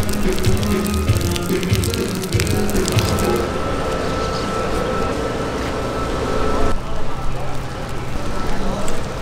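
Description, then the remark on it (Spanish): A broken, overheated car radiator hisses steam in a loud, continuous rush that fills the whole stretch, with low rumbling underneath and voices faintly mixed in. “calentó un poquito. Se rompió el radiador.”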